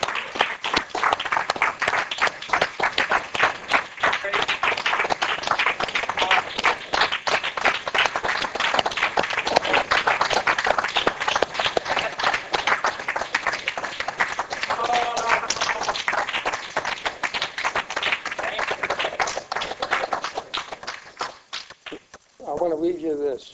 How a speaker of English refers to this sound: Praise God. Let's give him a clap offering tonight.